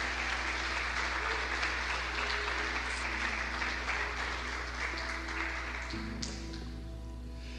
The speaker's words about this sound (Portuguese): Você pode aplaudir a Ele aí bem forte. Glória.